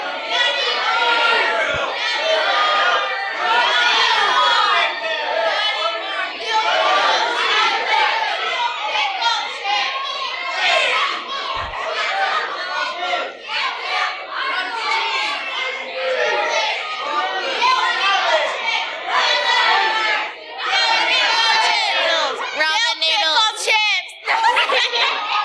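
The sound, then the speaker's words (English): A crowd of many overlapping voices, including children, shouting out grocery store items all at once in a loud, continuous jumble, with scattered laughter and chatter throughout. “What is it that you would get if you went to a grocery store? Yell it out.”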